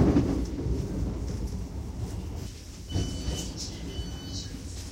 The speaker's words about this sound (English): Please mind the gap between the train and the platform. This station is Gatwick Airport. This train terminates at Brighton.